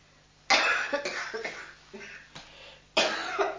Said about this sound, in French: Mamie qui tousse, pauvre mamie, je vois quelle gros rhumelle là.